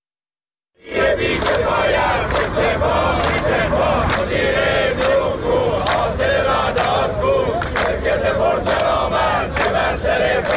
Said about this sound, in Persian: روز دوشنبه هم بازنشستگان شرکت مخابرات در شهرهای مختلف ایران تجمع کردند. این تجمعات از جمله در شهرهای اهواز، مشهد، شهرکرد، بجنورد و خرم‌آباد برگزار شد و معترضان علیه مسئولان مخابرات و سهامداران حکومتی این شرکت شعار سر دادند.